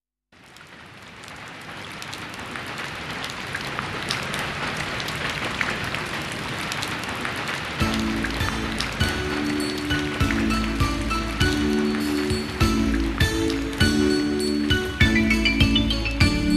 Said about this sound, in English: It's raining, it's raining, come out and let's play. Oh, what a rainy day.